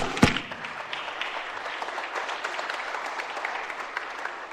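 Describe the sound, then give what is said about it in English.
A round of applause for the pro tem and his team for winning the bowling tournament, with many hands clapping in a steady, dense patter that opens with a sharp burst and holds at an even, moderate level throughout, with no voices over it. “So a round of applause to our pro tem and his team for winning the bowling tournament.”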